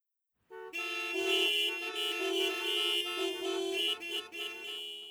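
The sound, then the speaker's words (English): Car horns honk in a traffic jam, a loud, sustained blare of overlapping tones that holds steady for several seconds with slight wavering, starting abruptly after a brief silence. “Pepper is in the car. The car is in a traffic jam.”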